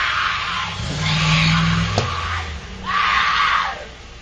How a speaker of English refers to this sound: She's out in the middle of the street, it looks like. A guy is filming her from his front yard, and she's laying face down. She's planking. And then a car comes along, and she jumps up and chases it and screams.